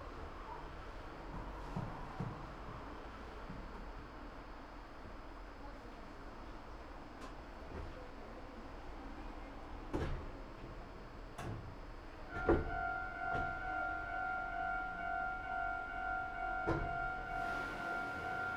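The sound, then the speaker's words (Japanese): A train sits idling at a station, waiting for a train coming the other way before departing, a low steady rumble filling the background with occasional sharp clicks and ticks, and a steady two-note electric tone droning through the final seconds. “この駅では反対列車を待ちます。発車までしばらくお待ちください。”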